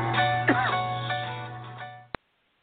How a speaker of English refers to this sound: He's coughing over his entry, intro there. You okay? I forgot to press the cough button.